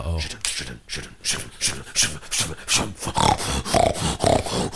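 A wild boar grunts and snorts in a rapid, uneven series of rough, low bursts, with a scuffling rustle in leaves running underneath throughout.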